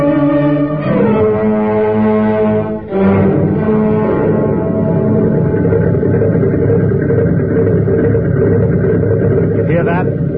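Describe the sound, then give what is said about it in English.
A new airplane motor idles on a test block in a loud, steady droning hum with a rich stack of low tones, briefly dipping and wavering early on before settling into an even, continuous rumble. “That's a new airplane motor, idling on the test block.”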